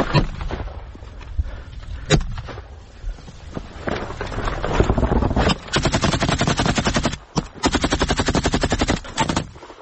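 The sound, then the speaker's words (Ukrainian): Sustained bursts of loud automatic machine gun fire, rattling in rapid rhythmic volleys with brief pauses between bursts and a few sharper single cracks early on, from a machine gunner of the 3rd Separate Assault Brigade covering a tree line during an assault on the approaches to Bakhmut in Donbas. “Пулеметчик крейт, посадку, а мы заходим.”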